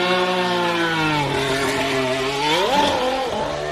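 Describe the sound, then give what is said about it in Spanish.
The high-pitched engine of the new McLaren Formula 1 car of Fernando Alonso screams steadily, its pitch dipping slightly, then surges up sharply in a quick rev before settling again, loud with no voices. “pero escuchen cómo suena el nuevo coche”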